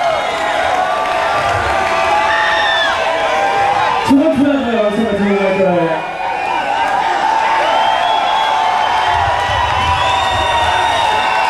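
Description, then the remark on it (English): A crowd cheers and applauds steadily for about twelve seconds, with many overlapping shouts and a loud whooping cry rising above the din midway before the roar continues. “I'm a great big round of applause.”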